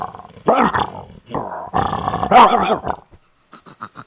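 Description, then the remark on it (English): A person imitates a dog with loud, growling barks and snarls in several bursts, followed by a few short, quieter yips at the end. “Dog, I'm pretty good at.”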